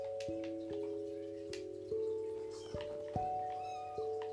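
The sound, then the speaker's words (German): A video game kitten gives a few short, high meows over sustained, steady background music notes, with faint clicking and tapping sounds scattered throughout. “Da ist eine Babykatze.”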